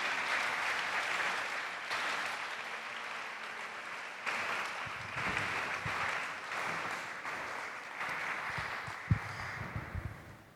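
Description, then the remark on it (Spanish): A crowd applauds everyone present with steady clapping, a dense wash that holds at a fairly even loudness for about ten seconds, with a few louder claps and thumps near the end. “Y esposo, bueno, obviamente aplausos a todos porque la verdad son muy inteligentes.”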